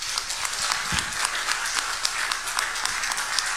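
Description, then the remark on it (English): Steady, dense audience applause, many hands clapping at once in a continuous crisp patter that holds at an even level throughout, with no voices over it. “Round of applause, huh?”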